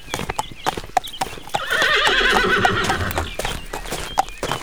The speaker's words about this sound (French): Dans la cour, la fermière passe avec Bijou le cheval qu'elle mène à l'abreuvoir.